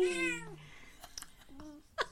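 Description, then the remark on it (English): A cat lets out a loud, drawn-out meow that slides downward in pitch, followed by a softer, shorter meow and a few faint clicks and rustles. “So there's that on the kitty. Can you hear that?”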